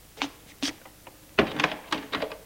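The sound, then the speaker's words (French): A hotel room door is pushed shut by a guest once alone, a few light clicks and knocks of the handle leading to a firmer thud and a rattle of the latch settling, with no talking. “Une fois seul, Charles ferme la porte.”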